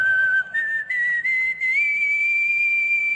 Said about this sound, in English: I mean, that's just whistling. Wow. Wow. Wow, that was good. Some people are hating, but I don't care. I'm not hating on that. I'm not hating that. That takes skill. How the heck did he even do that?